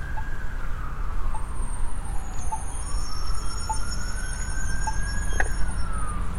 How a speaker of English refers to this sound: Oh, siren.